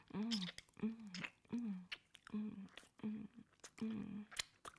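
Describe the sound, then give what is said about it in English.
Wet mouth sounds of sucking, slurping and drooling repeat in a steady rhythm, about six cycles, during oral sex, each mixed with a soft voiced hum or moan and sharp smacking clicks. “You like hearing me sucking, slurping, drooling, moaning?”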